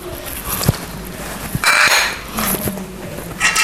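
Dishes and cutlery clink and clatter during washing up, with sharp irregular knocks over a steady wash of running water and scrubbing noise.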